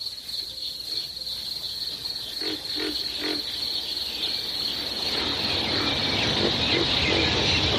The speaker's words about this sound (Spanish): Los grillos del campo.